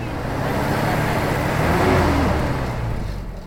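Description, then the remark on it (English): A pickup truck engine rumbles steadily, swelling slightly in loudness before gradually fading as it drives off on a road, taking a bride away. “A pickup truck comes and takes the bride away.”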